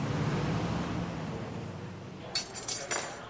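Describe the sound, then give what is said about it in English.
Steady, murmuring noise fills a busy restaurant on Sunset in Hollywood at lunchtime, then a few sharp bright clinks ring out near the end, like glasses or dishes being set down. “It's lunchtime. We're hungry. We got off the bus. We're at the Waffle in Hollywood, right on Sunset,”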